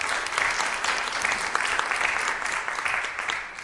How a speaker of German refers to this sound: dann freuen wir uns alle mit und klatschen, stimmt das? Genau.